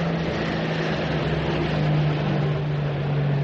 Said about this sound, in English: Four engines. That's either a Sunderland or a Fokker Wolf nosing about. With our luck, it'll be a Sunderland. Let's hope it's a long way away by morning.